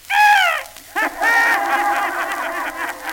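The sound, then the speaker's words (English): A parrot named Polly, kept in a house, squawks loud: a shrill, slightly falling call, a brief pause, then a longer warbling, rasping squawk that trails off, with no talking. “We've got a parrot in our house.”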